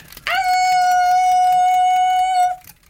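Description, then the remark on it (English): A person's voice imitates a wolf howl, one sustained tone of about two seconds that swoops up at the start, then holds steady and strong before cutting off. “So I actually thought about opening with a howl, but then I'm like, no, it's too much. Oh, and then I did it.”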